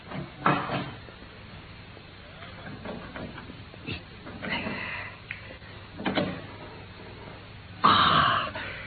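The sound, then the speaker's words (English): A heavy safe door being worked open: scattered metallic clicks and knocks, then a louder scraping clunk near the end as the door swings free. No one speaks. “Open, Watson. You've done it?”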